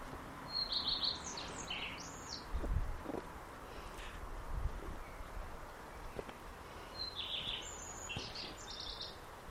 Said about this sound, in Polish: Co to za ptaki? Jak ktoś wie, to może napisać komentarz.